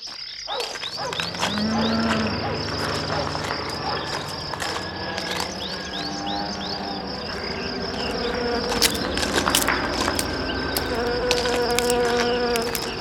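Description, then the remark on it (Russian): Outdoor ambience in a pear orchard, thick with buzzing insects: a steady high whine with drifting tonal hums and scattered chirps and ticks, continuous and fairly loud throughout, no talking. “И вот мы в прекрасном грушевом саду.”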